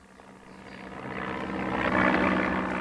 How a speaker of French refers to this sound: L'avion s'éloigne. Ayant pris son virage, il se dirige, descend, entre les quelques nuages, vers l'aérodrome.